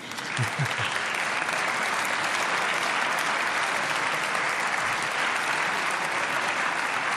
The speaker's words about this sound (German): Ich freute mich auf diesen Beifall.